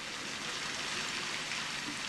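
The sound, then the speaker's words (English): A meltwater waterfall gushes down the flank of an iceberg in Disko Bay off the west coast of Greenland, heard from a tiny boat in the iceberg's shadow, making a steady, unbroken roar of rushing water that holds even throughout, with no voices. “A waterfall's gushing down its flank.”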